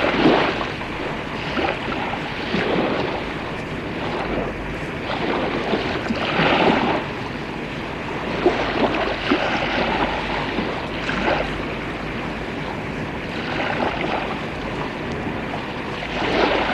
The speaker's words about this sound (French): Le bateau s'en va.